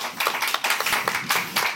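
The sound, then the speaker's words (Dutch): An audience at Plein Publiek gives a warm welcome applause for guest Victoria Koblenko, a dense patter of many hands clapping at once with sharper individual claps standing out, fairly loud and continuous throughout, with no talking. “Mag ik alvast een warm applaus voor haar?”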